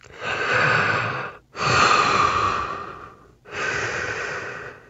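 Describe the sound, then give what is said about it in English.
Loud breathing inside an astronaut's helmet on the moon: three long, airy breaths in slow succession, each a hissing inhale or exhale separated by brief pauses, with no other sounds. “Well, they'd hear their own breathing through.”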